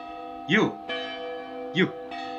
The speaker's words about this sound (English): You'd take me away from me bells? I live for these bells. You wouldn't take me away from them. You couldn't live without the power they give you, could you,